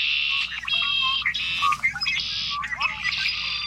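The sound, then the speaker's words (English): A red-winged blackbird calls in a loud, buzzy series of trilling notes, repeated in several bursts against a faint low background hum. “As a year-round resident of North America, the red-winged blackbird has the potential to connect us all, no matter where we live.”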